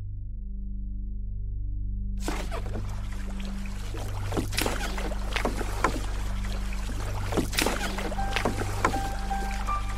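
boat moving on water

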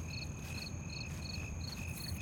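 cricket chirping sound effect

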